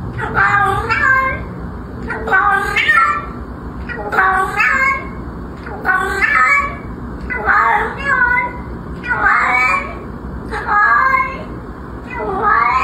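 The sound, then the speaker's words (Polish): A cat meows loudly and insistently, letting out roughly ten drawn-out, complaining calls in quick succession over a low background hum. “Jak możemy wywnioskować z tonu wypowiedzi, koty wcale nie są zadowolone z ludzkiego odkrycia.”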